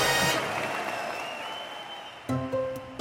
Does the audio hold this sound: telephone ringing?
no